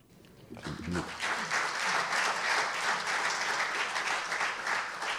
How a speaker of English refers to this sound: Yeah, that applause is for us and the job that we did just setting that segment up.